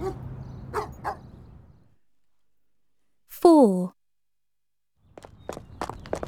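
A dog named Rover, out on a walk, gives one sharp bark with a falling pitch, set between stretches of quiet shuffling footsteps and a brief silence.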